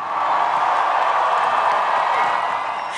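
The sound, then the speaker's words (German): Sustained applause from a large crowd welcoming Pope Francis as he rides through it in an open jeep, a dense, steady wash of many hands clapping at once, fairly loud and continuous throughout with no voices standing out. “Er grüßte die Menschen, winkte, herzte Babys und wurde mit langem Applaus willkommen geheißen.”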